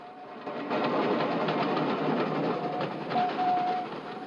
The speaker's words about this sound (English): As an engine steams out of the tunnel, a fireman stokes the boiler's roaring fire with coal. Sitting on the fence at the top of an embankment, the children watch the train streak past, steam gushing from its funnel. The train glides off.